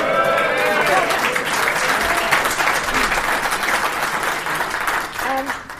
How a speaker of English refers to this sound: I thought that might get a cheer.